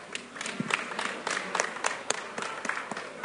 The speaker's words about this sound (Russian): Пожалуйста, обозначьте аплодисментами, кто закончил.